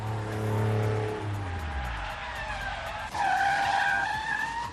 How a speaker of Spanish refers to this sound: Frenazo. En seco